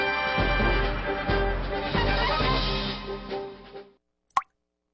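A single water drop plops once from a loosely closed faucet, crisp, right after a stretch of loud, full music ends, leaving the drip alone in near silence.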